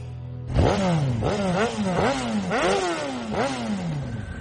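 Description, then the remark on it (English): A Ducati motorcycle engine revs hard several times in quick succession, each throttle blip rising and falling in pitch, loud with no talking. “I've got my Ducati, thanks to you.”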